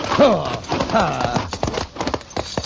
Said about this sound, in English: Driver, see if you can keep that team straight, will you? All right, alongside that wheel horse, Thunder.